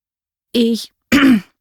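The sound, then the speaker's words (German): A person clears their throat twice in quick succession, two short, fairly loud voiced rasps separated by a brief pause, with no other sounds around. “Mehrfach musste ich mich räuspern.”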